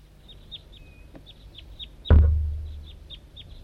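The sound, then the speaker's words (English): A wild bird, responding to a decoy, gives a steady series of short, high, downward-slurred calls, broken midway by a sudden loud thump with a low rumbling decay before the calling resumes. “And decoy is responding.”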